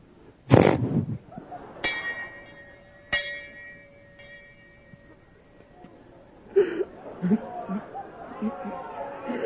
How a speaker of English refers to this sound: Pastor Jeremy, would you ring? Pastor Rob, would you ring the bell 3 times real quick?